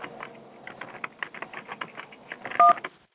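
A telephone number is dialed to try reaching a caller again: a brisk run of soft, rapid clicks, then one loud, steady two-pitched keypad tone near the end, with no talking.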